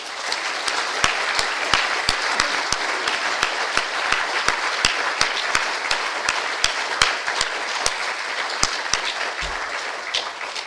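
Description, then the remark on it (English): Sustained applause from an audience for the speakers after a day of presentations at an event at Bletchley Park, a dense wash of many hands clapping at once with sharper individual claps standing out, steady throughout with no voices over it. “And I really do, in a very special way, want to thank all our speakers, and perhaps we can give a round of applause to the speakers.”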